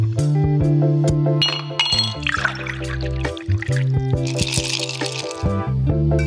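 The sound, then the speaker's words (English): A drink pours with a bubbly, splashing rush and glasses clink together, set over steady background music with a deep bass line; the pouring comes in two short bursts, fairly loud. “So lower the lights, grab your favorite beverage,”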